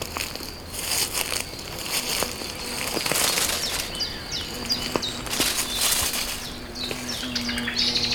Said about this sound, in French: Une petite sente qui surprend un merle. Là, caché dans les arbustes et les feuillus.